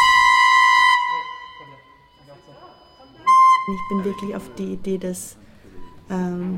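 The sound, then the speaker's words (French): Ship sirens sounding an alert blare in two loud, steady, harmonic blasts, the first about a second long and the second shorter, followed by voices talking over fainter tones. “il s'est mis en état d'alerte, c'est pour ça qu'on entend toutes ces sirènes”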